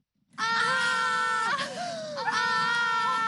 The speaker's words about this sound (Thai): แล้วทั้งสองสาวก็กรี๊ดขึ้นพร้อมๆกันค่ะ